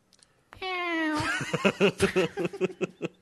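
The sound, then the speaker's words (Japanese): A person imitates a cat with one long, drawn-out meow, clear, calling as the cat during a live stream, then breaks into a quick run of rhythmic, choppy laughter. “猫はまだかっていうツイキャスが多かったので、 はい、 猫をじゃ あ 呼びますか、うん、あ、はい、 あ、俺か、猫、 あ、 猫俺か。”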